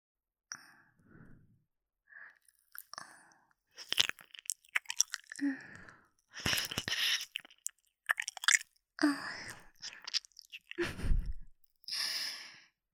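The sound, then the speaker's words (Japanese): Wet, sticky licking and smacking mouth noises of the shallow part of an ear being licked come in irregular bursts, mixed with soft sighing breaths; no one speaks. “耳の浅いとこ舐められただけで、吐息漏らしちゃってるじゃないですか。”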